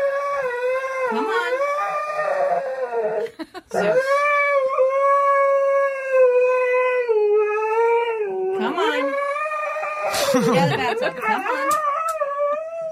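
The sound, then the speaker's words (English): A dog in a bathtub, not wanting to get out to go for a walk, whines and howls in long, wavering, high-pitched cries, loud and nearly continuous, with one brief pause, then rising and breaking into shakier, yelping whimpers near the end. “Sound like he's pooping a peach seed.”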